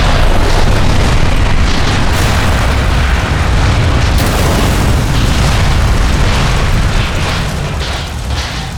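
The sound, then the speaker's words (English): A huge explosion roars after a Dodge rolls out of sight, a deep, heavy rumble with dense crackling noise that sustains for several seconds before easing slightly toward the end. No voices. “Terrified screams, the twisting metal, the report of a huge explosion.”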